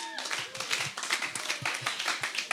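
A small audience breaks into steady, dense applause, many hands clapping together at moderate volume and sustained for a few seconds, with faint voices mixed underneath.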